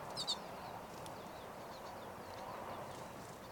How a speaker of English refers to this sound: Most, if not all, of the recorded calls are 5:35, but there is a wild bird very close.